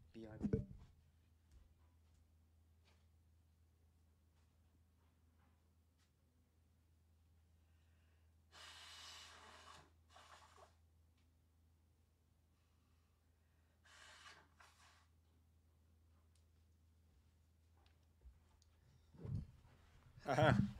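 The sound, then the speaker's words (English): Someone blows their nose twice, with two harsh, breathy bursts a few seconds apart over a steady low hum, and faint handling knocks near the start and end. “Before we get started, I'm going to blow my nose.”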